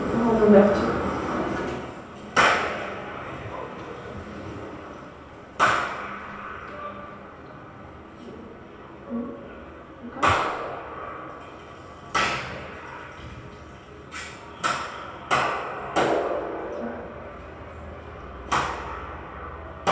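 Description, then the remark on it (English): Sharp, loud bangs, about a dozen at irregular intervals, ring out inside a loggia set within concrete walls. Each one trails off in a buzzing, rapidly repeating flutter echo that fades over a second or two. “And that sound has been recorded in one of the loggia, because there are loggia inside the concrete walls.”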